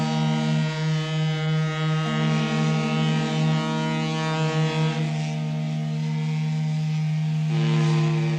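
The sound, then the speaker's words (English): Deep, sustained whistles of ships passing through the Suez Canal at the harbors of Port Said and Port Suez blare in overlapping low tones, one long horn blast shifting pitch slightly as another joins, droning steadily for several seconds without any voices. “Once again, the harbors of Port Said and Port Suez resound to the whistles and sounds of passing ships, for the broken link has been restored.”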